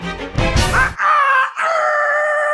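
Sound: roosters crowing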